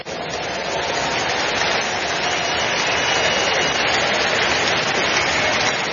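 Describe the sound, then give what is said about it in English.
A crowd claps continuously, giving the Lord a big hand of praise, in a dense, steady roar of hands, sustained at an even loudness for several seconds, with no voices standing out. “Give the Lord a big hand of praise.”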